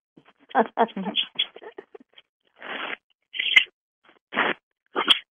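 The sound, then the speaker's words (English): Brief high squeaks cut through a narrow, tinny phone line, mixed with muffled bursts of voice and rustling that come and go in short clumps, with a couple of sharper squeals near the end. “Somebody's squeaking.”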